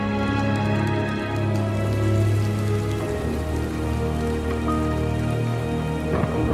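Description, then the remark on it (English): Steady rain falls continuously, a dense, even patter that holds at a constant moderate loudness, with soft sustained tones humming beneath it and no voices. “With crestfallen looks on their faces, they stare as a steady rain starts to fall.”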